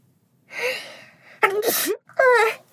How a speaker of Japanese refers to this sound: 鼻詰まってるのが鼻溜まってきちゃって、あ、くしゃみ出る。